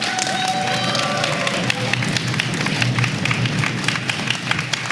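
A crowd applauds steadily, dense overlapping claps filling the whole stretch at an even loudness, with a few faint whistles near the start.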